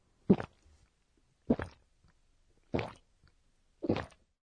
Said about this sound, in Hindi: लगता है कोई कुछ पी रहा है। जब कोई कुछ गटक कर पी रहा हो तो उस आवाज को बताने का जापानी शब्द है गोक गोक।